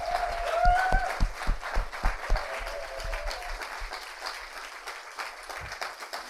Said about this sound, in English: we have a big round of applause